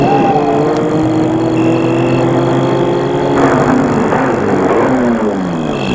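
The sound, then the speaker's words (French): A car engine rumbles, its pitch sliding steadily lower as the car slows on a drive through a park and pulls to a halt in front of the entrance of a house, the motor still idling loudly at the end. “La voiture s'est arrêtée devant l'entrée de la maison.”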